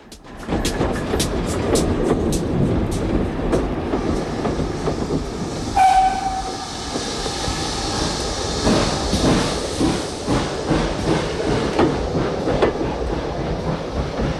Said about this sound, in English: He strolls over to wait on the opposite platform as the engine squeals to a halt.